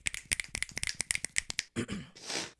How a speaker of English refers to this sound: Patreon shout outs. Hey, up. I have the I do have a jingle for this, so here we go.